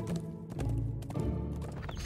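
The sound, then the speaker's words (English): Galloping horse hooves beat out a quick, steady clip-clop rhythm, mixed with a dense, sustained musical backdrop at a fairly loud level. “The eldest brother was galloping along on his steed”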